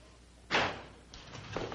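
back door closing

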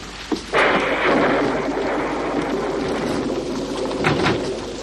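rainstorm with thunder

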